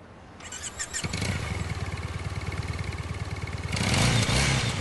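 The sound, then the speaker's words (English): A motorbike engine cranks and catches, settling into a steady throbbing idle before being revved louder near the end, with no voices. “He gives her a come-on look as he revs the engine.”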